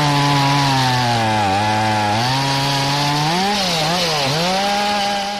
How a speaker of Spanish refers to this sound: Este es uno de los sonidos que se escuchó esta mañana en la Plaza de Armas. Corresponde a la motosierra que han utilizado los operarios de la UTE, a la que se le adjudicó la reforma de esta plaza para cortar hasta 4 árboles